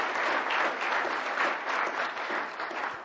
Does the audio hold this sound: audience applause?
yes